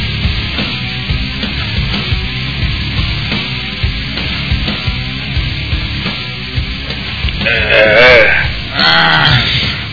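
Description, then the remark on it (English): A voice on the other end of a phone line imitates a wildebeest call with two wavering, bleat-like cries near the end, loud against a steady crackling, sizzling noise that runs throughout. “Yeah, we got a wildebeest on the line.”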